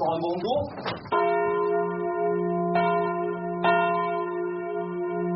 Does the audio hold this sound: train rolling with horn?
no